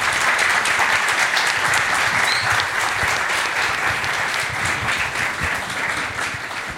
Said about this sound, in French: Merci à vous cinq. On peut les applaudir, oui. Merci. Merci.